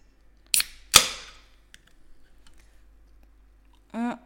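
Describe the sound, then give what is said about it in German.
A can of Bass drink being opened: a sharp crack, then a louder pop followed by a short fizzing hiss, a few faint clicks, and a brief voice at the end. “Ich muss mir mal noch schnell eine neue Dose Bass holen.”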